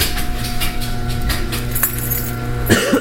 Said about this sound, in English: I'm walking into the garage now. The garage. I will close the garage door.